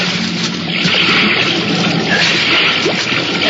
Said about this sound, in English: The impact of the landing threw me against the wall of the fuselage, but a moment later, the sound of water rushing in through the loading doors brought me around fast.